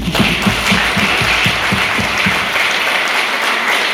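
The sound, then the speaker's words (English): A crowd applauds to thank a guest speaker after his talk, dense clapping forming a loud, even wash with no voices, a few heavier claps standing out in the first half before the sound thins slightly toward the end. “So another hand of applause to him.”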